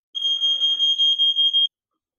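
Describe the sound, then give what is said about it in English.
A smoke alarm shrieks with a loud, piercing high-pitched tone, pulsing rapidly for about a second and a half before cutting off abruptly, with no voices over it. “The fire alarm knew what match was coming up.”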